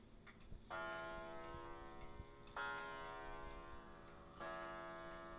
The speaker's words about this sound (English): Is that the clock in the background? Yeah, it is. The clock is finally activated.